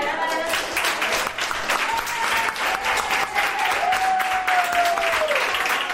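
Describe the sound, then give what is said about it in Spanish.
Sustained, loud applause at the Hospital Gregorio Marañón in Madrid for a 104-year-old woman being discharged after more than 14 days in internal medicine with COVID-19, dense clapping filling the whole six seconds, with a faint high whistle-like tone gliding through the middle. “y el por qué ha recibido este bonito pedazo de aplauso.”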